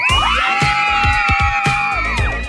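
A large crowd at a summer teen pop concert cheers loudly, with a steady wash of high-pitched screams and shrieks layered over scattered claps and thumps that continue throughout.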